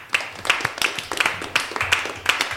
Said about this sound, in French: Oh, c'est le 9 mai. On peut applaudir, s'il vous plaît.